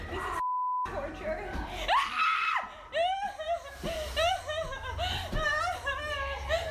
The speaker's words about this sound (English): They can use you now in commercials because so your scream slash cry is so painful.